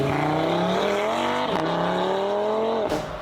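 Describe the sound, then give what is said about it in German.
A car engine revs hard and loud, its pitch climbing in sweeping harmonic bands, briefly dipping and surging again before easing off at the end. No voices. “Du lässt mal schnell den Motor aufheulen und dann bist du weg und hast Leute aus dem Schlaf geweckt, aber finden tut dich danach eigentlich niemand.”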